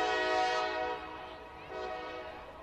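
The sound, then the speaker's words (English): A train horn sounds in a long, steady blast of stacked harmonic tones, fairly loud and sustained throughout, dipping slightly midway before swelling again, with no voices. “Probably shouldn't admit this, but I think the train horn threw me off just then.”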